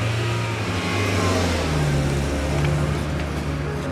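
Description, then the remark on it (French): A car engine revs and accelerates as a woman drives at full speed on a 100-kilometre trip to Soisy-sur-Seine, its low rumble rising and falling in pitch over a few seconds at a steady, loud level with no voices. “Elle monte dans sa voiture et elle décide de faire à toute allure les 100 kilomètres qui la séparent de Soisy-sur-Seine.”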